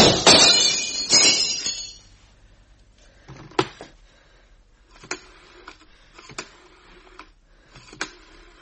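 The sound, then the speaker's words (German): Window glass shatters in two loud crashing bursts, followed by scattered small clinks and tinkles of falling shards at irregular intervals as the debris settles. No voices are heard. “Los, das andere Fenster!”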